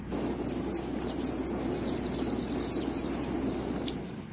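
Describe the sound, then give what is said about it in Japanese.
A zitting cisticola, a warbler relative in breeding season flitting busily over Japanese pampas grass on an island, calls a steady string of about a dozen sharp, high 'zit' notes in quick, even rhythm over a low rumbling outdoor background. “繁殖期を迎えてススキの腹をせわしく飛び回るウグイスの仲間、セッカ。”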